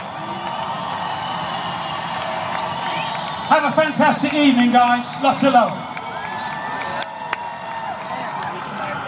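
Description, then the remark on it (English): A concert crowd cheers and applauds a band as it is introduced on stage, a steady, dense roar for the full nine seconds, while a voice briefly speaks over it in the middle. “Come on, you can do better than that.”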